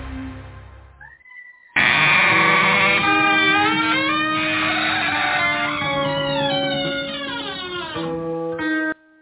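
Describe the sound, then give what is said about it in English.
A goat screams loudly and continuously for about seven seconds, a harsh, strained wail whose pitch wavers and slides before it cuts off abruptly, preceded by a brief quieter rustle. “Nothing as soothing as a screaming goat.”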